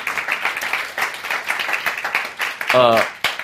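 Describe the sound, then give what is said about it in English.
An audience claps for a few seconds to welcome a guest, a dense, steady patter of many hands at moderate volume, and a single voice briefly calls out near the end. “We can clap and welcome her.”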